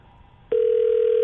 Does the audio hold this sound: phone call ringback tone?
yes